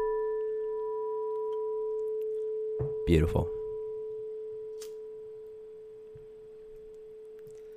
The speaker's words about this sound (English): Would you like to bring us in? I would like to gong us in. Gong us in, babe. Let's open the space.